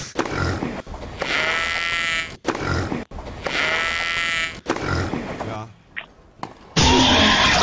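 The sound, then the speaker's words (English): A person imitates a pig grunting during a game of animal tennis, making a few rough, drawn-out snorting bursts with short breaks between them, followed by a loud burst of hiss at the end. “No, it's a pig and a sheep.”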